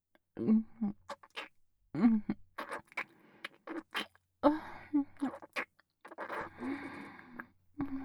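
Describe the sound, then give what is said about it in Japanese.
Wet kissing sounds repeat in irregular bursts of soft lip smacks, mixed with breathy, murmured vocal sounds from the same voice and brief quiet gaps between them. “そなた、とうとうおひとキス。してしまいましたね。”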